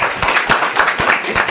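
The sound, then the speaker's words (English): An audience claps together, a dense, steady patter of many hands with a few sharper individual claps standing out at a brisk, irregular rhythm; no voices are heard. “Okay, so let's clap right now.”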